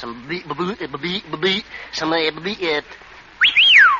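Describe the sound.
A man talks briefly, then after a short pause a single sharp whistle rises and falls in pitch, a quick attention-getting call in a bookshop lasting about half a second.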